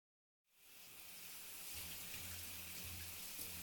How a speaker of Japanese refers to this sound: すぐに泡は落ちるけど、シャワーをするから正面向いて。